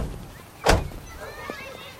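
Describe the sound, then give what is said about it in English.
The back door of a large two-tone green Buick Super with white wall tires opens with one sharp, solid click-thunk of the latch, followed by faint creaking and a soft mechanical whine over low background noise, in a residential neighborhood a few blocks from downtown Montreal. “Jackie opens the back door for Rachel and she steps out.”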